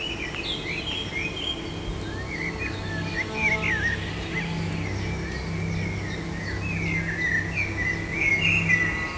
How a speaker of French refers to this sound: Et tous les oiseaux qui tournoient.